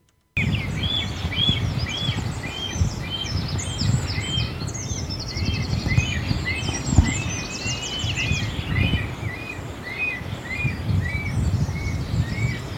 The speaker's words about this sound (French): Et là, donc, on vient d'écouter les cris de la cigogne noire.